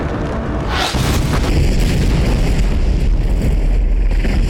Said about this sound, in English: I mean, the great thing with that explosion, we were in the middle of the desert. Now, because historically, big explosions and glass don't go together really well.